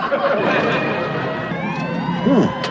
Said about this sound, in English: Hey, that sounds like a fire. What is it? It's fine. Take a look. Hey, fire engine. What? Wow, a whole bunch of them.